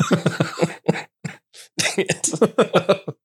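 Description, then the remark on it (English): A sick person coughs repeatedly, a run of rough, rapid bursts separated by brief pauses and breaths, fairly loud and with nothing else in the background. “I'm going to keep the coughing.”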